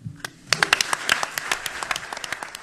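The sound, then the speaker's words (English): A small group, apparently media people, claps at a press conference introducing Travis Hunter, with sharp, irregular hand claps starting sparse and quickly building into steady, moderate applause that continues to the end. No one speaks. “I assume that's one of those deals where they brought down the whole organization and they're sitting there clapping in the press conference.”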